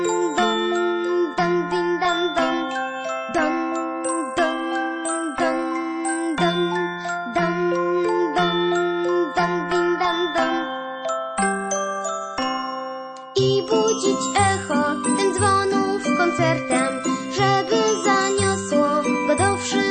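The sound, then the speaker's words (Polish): Bells chime a bright, cheerful melody in a steady, rhythmic pattern of ringing notes, growing fuller and busier partway through, with no voices. “Chciałbym być, Boże, braciszkiem, dzwonnikiem, zamieszkać w wieży pod niebem wysoko, grać Ci na dzwonach wesołą muzykę, gdy słońce rano otworzy swe oko.”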